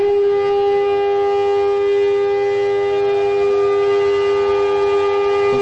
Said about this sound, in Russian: израильтяне почтили память родных и близких, погибших в войнах и терактах. Под звуки траурной сирены по всей стране остановилось всякое движение.